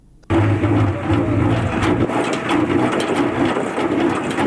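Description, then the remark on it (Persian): A honey extractor machine in the high mountains of Andarab, Baghlan province, starts up abruptly and runs steadily, a loud low mechanical hum with a broad rushing noise and irregular rattling clatter throughout, with no voices. “این صدای ماشین عسل‌کشی در کوههای بلند اندراب است.”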